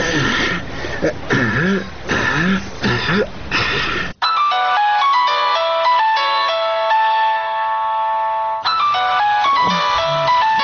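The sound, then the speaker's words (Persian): A mobile phone ringtone for an incoming call plays a bright, repeating electronic melody for several seconds, clear and fairly loud, with a voice talking just before it and again as it ends. “باش که در ببینم که کی زنگ میزنه.”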